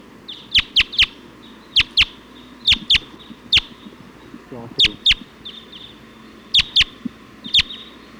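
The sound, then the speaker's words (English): Sharp, high bird calls ring out in quick pairs and clusters, a repeated chip-like note from a flock of about 20 Type 2 birds perched at the top of a pine tree, loud against a low rumbling background with a faint warbling sound midway. “Type 2 birds just came in, pointing here at 279.”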